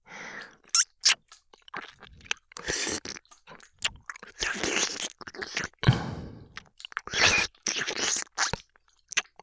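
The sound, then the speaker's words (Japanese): Wet ear-licking mouth sounds: irregular smacks, clicks and slurpy bursts in an uneven rhythm, some sharp and loud, others softer and smeared, with no talking. “耳を舐められる音が気持ちいい。”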